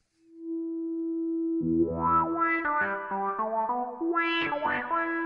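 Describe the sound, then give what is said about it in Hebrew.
An amplified electric guitar through a wah effect: a sustained note, then a loud, close run of notes whose tone sweeps up and down in vocal-like swells. No one speaks. “עוד צליל מלאכותי, או בוא נגיד מוגבר, מכני שנשמע באותם תדרים, זה המגביר של הגיטרה, או האפקט של הגיטרה.”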